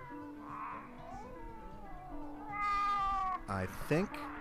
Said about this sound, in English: Backed up by two cats meowing and one hissing.